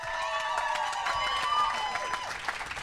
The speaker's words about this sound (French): On l'applaudit.